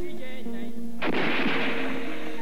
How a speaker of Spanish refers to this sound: Los primeros disparos sonaron. La multitud corrió pensando que las balas eran de salva. No fue así.